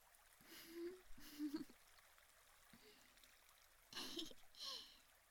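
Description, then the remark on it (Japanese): Soft, steady flowing river water murmurs quietly throughout as people cool off by the river, with a few brief voiced sounds rising over it now and then. “こうやって川で涼んでいると心和みますね。”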